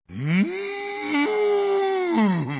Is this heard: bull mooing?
yes